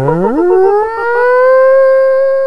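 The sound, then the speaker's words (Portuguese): A person imitates an animal howl: one loud voice swoops upward in pitch, then holds a steady, sustained wail with rich overtones for about two seconds, with no talking. “faz uma brincadeira e imita o uivo dos animais.”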